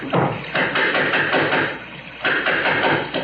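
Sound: knocking on a door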